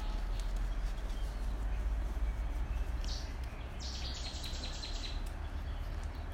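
Birds sing in short, high chirping bursts over a steady outdoor hush. The song is fairly soft, clustering in the second half, with no one talking.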